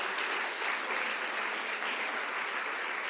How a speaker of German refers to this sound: Einen großen Applaus dafür.